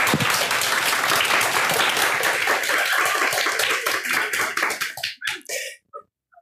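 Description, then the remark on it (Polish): An audience applauds loudly for the author of the book Histeria sztuki, dense clapping that thins into a few scattered claps and fades out near the end. “Może jeszcze raz poproszę o brawa dla autorki.”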